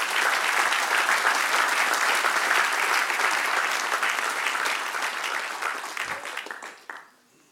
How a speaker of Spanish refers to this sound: Dale un aplauso al Señor, aleluya.